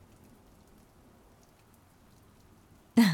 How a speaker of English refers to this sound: Must have been the sound of the rain falling outside.